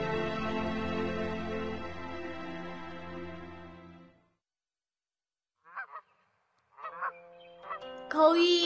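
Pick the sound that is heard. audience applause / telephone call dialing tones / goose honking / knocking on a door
goose honking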